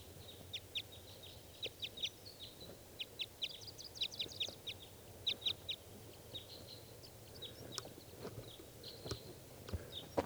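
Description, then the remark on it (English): A lone male wild bird calls in quick clusters of sharp, high-pitched chirps, repeating irregularly over a low background rumble with a few soft knocks. The calls are fairly quiet, and no one speaks. “Okay, this is that bird.”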